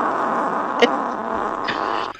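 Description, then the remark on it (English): A sustained, raspy, buzzing blast of a fart machine runs for about two seconds with a couple of faint clicks, then cuts off abruptly. It is fairly loud, with no talking. “That's a machine. That's a fart machine.”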